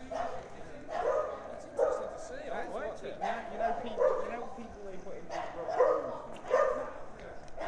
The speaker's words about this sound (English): Ooh, that dog sounds a bit scary.